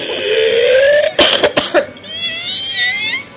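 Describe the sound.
A voice mimics snoring: a wavering, whistly drawn-out tone, then a cluster of three or four rough, snorting bursts, followed by a thinner warbling whistle trailing off. Fairly loud, with no other talking.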